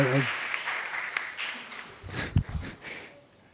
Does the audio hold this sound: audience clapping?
yes